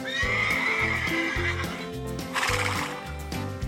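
A horse lets out a loud, high wavering whinny near the start, set over a steady rhythmic thumping beat that continues throughout.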